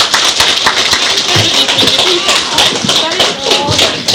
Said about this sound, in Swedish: Ja, det var de sånger vi hade tänkt sjunga. En stor applåd och tack för det, va? Det gör vi.